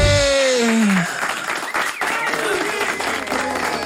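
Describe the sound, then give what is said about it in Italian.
A sliding, descending tone fades out and gives way to a steady wash of crowd applause at the end of a song, fairly loud and continuous to the end. “La cassa batte il 4 dritto ed un applauso a fine canzone.”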